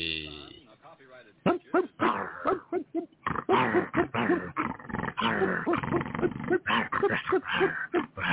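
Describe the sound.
A puppy yaps and barks in quick, uneven bursts with little whines and growls between them, fairly loud on a thin, band-limited recording, with voice-like sounds mixed in throughout.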